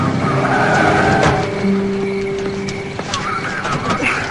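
A car engine hums steadily as a vehicle drives up, with a low droning tone and some crunching, scuffing noises over a constant background rumble.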